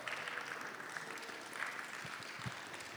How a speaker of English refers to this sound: Yeah, a big round of applause